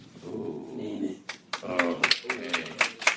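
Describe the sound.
A thin smattering of applause from a handful of people, scattered uneven claps that start after a moment of voices and continue sparsely alongside murmured talk.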